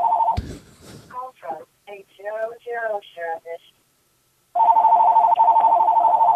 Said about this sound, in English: Hey, tell that phone in the background to shut the fuck up. Okay, I got this. I want you to body slam that phone.